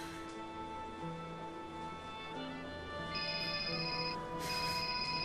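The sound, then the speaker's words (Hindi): A telephone rings with bright electronic tones that come in two bursts near the end, over a steady background of sustained, music-like tones. “अब शायद इस फोन का जवाब देना पड़ेगा।”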